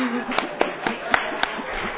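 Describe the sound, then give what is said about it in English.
Audience applause fills the background as a steady wash, with about five sharp, evenly spaced claps from one man clapping louder than everyone else standing out above it before they stop and the crowd noise continues. “Hey, who's this guy that's clapping a little louder than everyone over here?”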